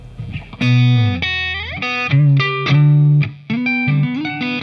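An electric guitar plays a short, loud riff with a warm, rounded neck-pickup tone, sustained bent notes and choppy phrases, with no voices.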